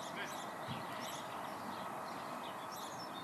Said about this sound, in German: Und dann sind dir vielleicht auch die Vögel aufgefallen. Vielleicht vorhin, als wir gesprochen haben, uns gegenseitig angeschaut haben, hast du die gar nicht gemerkt.